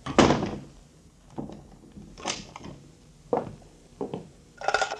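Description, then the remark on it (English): A cabin door shuts with a loud thud, followed by several softer clunks and a final metallic rattle as it is locked; no one speaks. “And, Doctor, lock the cabin door.”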